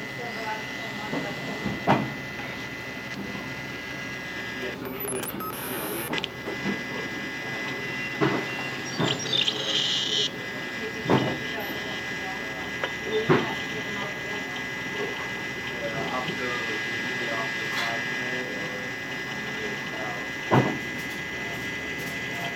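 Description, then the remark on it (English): Underwater ship propeller noise forms a continuous, static-like hiss with faint steady tones running through it, broken now and then by brief sharp clicks and pops. “So that static in the background that you hear is mostly the sound of the ship's propeller underwater.”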